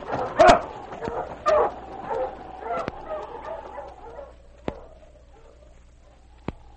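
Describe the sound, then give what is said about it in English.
Sled dogs pulling a sled along a trail toward Dawson bark and yip in a cluster of loud, sharp calls, then settle into softer whines and scattered yelps, with a couple of crisp snaps near the end. “When he reached town, he unharnessed his dogs in back of the Palace Hotel, turned them into the run”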